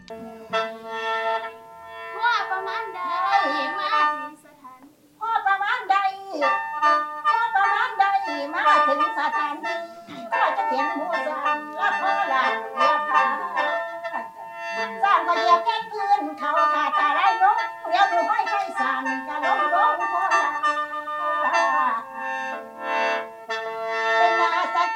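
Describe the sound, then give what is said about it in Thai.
Children rehearse mor lam singing to a khaen beside a sim (Lao-style temple hall), with senior mor lam singers and a khaen player, an elderly woman folk singer teaching them; bright voices rising and bending over the mouth organ's steady reedy drone, nearly continuous apart from one brief pause. “พอเดินอ้อมมาอีกด้านหนึ่งของสิมก็เจอกลุ่มเด็กๆและหมอลำอาวุโสครับรวมทั้งหมอแคนกำลังทบทวนการฝึกซ้อมบทร้องบทลำอยู่ที่ข้างสิมพอดีครับ”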